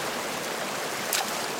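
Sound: shallow river water flowing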